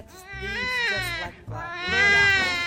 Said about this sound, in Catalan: Ei, que el nen està plorant. No penses anar a veure què li passa?